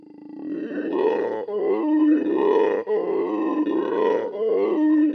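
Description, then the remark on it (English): A howler monkey's roaring call, deep and loud, rising and falling in long pulsing waves that run on continuously for several seconds with brief gaps for breath. “So it seems the howler monkey just can't have both.”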